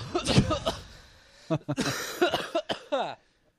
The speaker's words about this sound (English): So why the cough